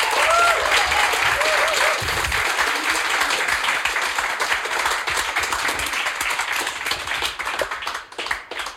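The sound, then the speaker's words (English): A crowd applauds steadily for about nine seconds, a dense, even patter of many hands clapping, holding strong before thinning slightly near the end, with a few faint voices and whoops mixed in. “A favorite round of applause.”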